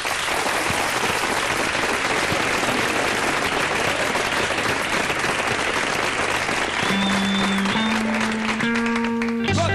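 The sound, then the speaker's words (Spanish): Steady, dense applause from a crowd welcoming guests on a programme fills the whole clip, sounding dull and muffled; near the end a few sustained musical tones rise in steps beneath the clapping. “Recibimos, supongo, aunque sea de palmas sordas, y en sus hogares ustedes lamentense”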